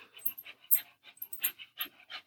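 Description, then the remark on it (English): A dog pants rapidly, a quick rhythmic series of breathy huffs, about a dozen short bursts in a couple of seconds, fairly quiet and with no one talking. “And now the dog's here.”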